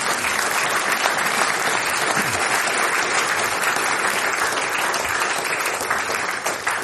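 Sustained audience applause for the next speaker at the Heiter besinnlicher Advent event in Falkenstein fills the whole stretch, a dense, steady wash of many hands clapping at once, loud, with no talking over it.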